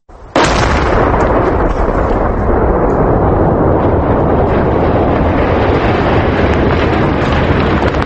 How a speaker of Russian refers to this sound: Управление по чрезвычайным ситуациям совместно с Международной организацией по разминированию Hello Trust обезвредили в верхней части Кадорского ущелья авиабомбу. Взрыв оглушил окрестности, обрушил скальную породу, но близлежащие дома не пострадали